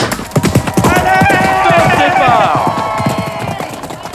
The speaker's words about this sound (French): Les chevaux s'engouffrent dans les rues étroites de la ville. Leur fer martèle les pavés.